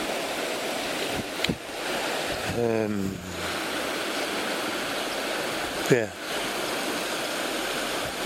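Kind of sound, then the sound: nature, rushing stream water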